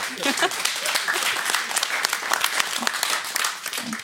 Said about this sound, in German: Ist eigentlich traurig, dass man dafür Applaus kriegt, ne?